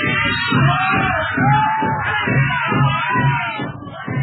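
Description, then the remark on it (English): A crowd of warriors shouts together in loud, steady rhythmic bursts, many low voices whooping and yelling in a chant-like pulse for several seconds. “Amid the shouts of the savages, Mr. Grange speaks.”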